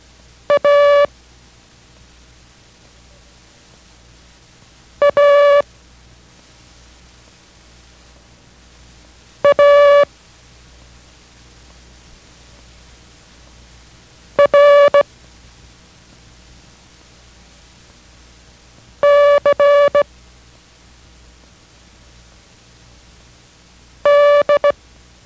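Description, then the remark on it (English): Six short bursts of Morse code in a steady mid-pitched tone, sending the characters A, A, A, R, C and D (Abel, Abel, Abel, Roger, Charlie, Dog), each character keyed as quick beeps about five seconds apart, over a faint hiss with no voices. “Those characters were Abel, Abel, Abel, Roger, Charlie, and Dog.”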